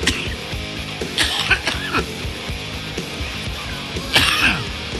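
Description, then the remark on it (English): An explosive cough and sneeze burst out together in a few sharp blasts, with a softer stretch between them and no one talking. “It was a cough. Welcome to the circus. And a sneeze at the same time.”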